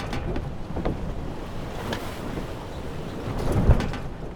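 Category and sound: nature, ocean waves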